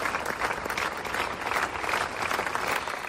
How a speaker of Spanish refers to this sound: Aplausos tras un minuto de silencio con pancartas en las que se ha rechazado la violencia de género.